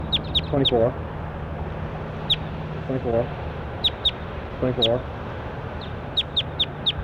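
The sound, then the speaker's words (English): Calls of bird number 24 in a recording series: short, sharp high chirps come in quick clusters of two to four, while three lower, nasal clucking calls break in between, all over a steady low hum. “That was bird 24.”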